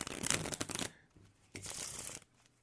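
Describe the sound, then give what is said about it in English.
A deck of cards being shuffled, two quick riffling bursts of crisp papery flutter separated by a short pause, with no voices during the shuffle. “Let me shuffle here.”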